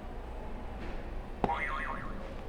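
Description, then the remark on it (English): A buzzer sound effect as a buzzer is hit: a sharp click followed by a springy, warbling tone that wobbles up and down in pitch for about a second over a steady low background hum. “We have one more to go, so go ahead and hit another buzzer.”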